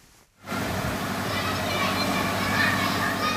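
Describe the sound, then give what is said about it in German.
Children shout and call out while playing in a street under a cloudless blue sky, a steady dense wash of overlapping young voices that starts abruptly after a brief quiet moment, with faint high chirps of birds threaded through. “Der Himmel wolkenlos blau, die Luft erfüllt von Klängen, die die Menschen lange nicht hören konnten, Rufe von Kindern, die auf der Straße spielen, zwitschernde Vögel.”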